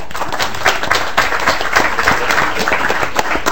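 People at a legislative committee hearing applaud steadily for visiting Woodbury High School and Lake Middle School students, a dense wash of many overlapping hand claps with sharper individual claps popping out, sustained and fairly loud throughout with no talking.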